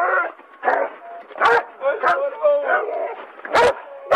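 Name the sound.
police dog barking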